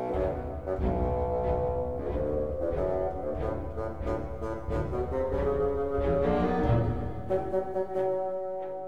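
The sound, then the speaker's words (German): A bassoon plays a low, gruff melody in steady phrases over an orchestral accompaniment, its reedy, rumbling tone sustained and fairly loud throughout, with no voices. “Das Fagott brummt wie der Großvater.”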